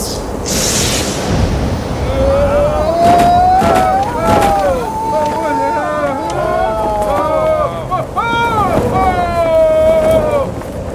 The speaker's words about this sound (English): It's getting stronger. Oh, dear. What are we looking at? A burgeoning tornado?